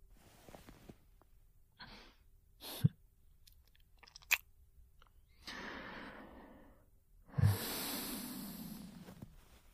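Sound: yawn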